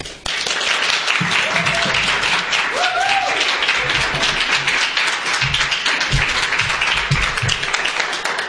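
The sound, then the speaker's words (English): A crowd applauds steadily with dense, continuous clapping as a speaker is welcomed, while a few whoops and cheers from a small cheering section in the front rise above it, loud throughout with no talking. “I'm blushing now from that little cheering section in the front.”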